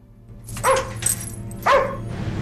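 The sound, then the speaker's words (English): A dog barks twice from inside its cage in an animal hospital, about a second apart, each bark sharp, over a steady low hum with no voices. “As he lifts his head groggily, a dog barks from inside its cage.”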